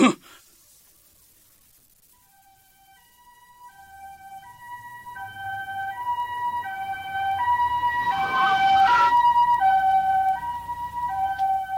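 An ambulance siren wails in a repeating two-tone pattern, growing louder, with a low engine rumble beneath as the vehicle approaches and passes.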